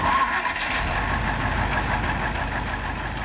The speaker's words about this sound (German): 7.25 Uhr, Haltestelle Oppau. Das Motorengeräusch der neuen Buslinie 84, Musik in den Ohren